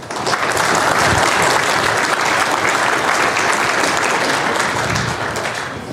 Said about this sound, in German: Entsprechend begrüßt Sie mit einem warmen Applaus.